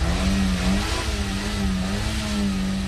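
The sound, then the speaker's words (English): About a dozen cars rev and accelerate, then stop suddenly, while circling orange cones at an abandoned airfield five miles from the Kremlin in Moscow during a driving school lesson; a loud continuous mechanical drone whose pitch rises and dips slightly, with no voices. “At an abandoned airfield just 5 miles from the Kremlin, a dozen or so cars are circling around orange cones, accelerating, then stopping suddenly.”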